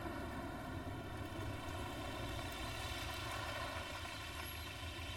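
A car engine hums steadily as the car drives into a courtyard, a continuous low rumble with a faint whine above it, holding the same level throughout with no voices.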